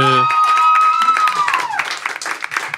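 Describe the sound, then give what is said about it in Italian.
A burst of steady, encouraging clapping from a small crowd, starting under a held, high vocal-like tone that slides downward and fades, then continuing as dense, uneven applause. “Facciamo un applauso di incoraggiamento.”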